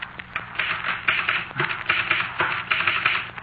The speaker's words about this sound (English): Come here, look at my typewriter. Well, what about it? Well, look what's on the paper.